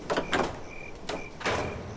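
door being opened

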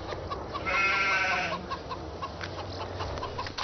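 sheep and goats bleating

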